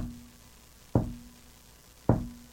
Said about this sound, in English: All this time, the knocking, knocking, knocking is keeping on and on, quieter now.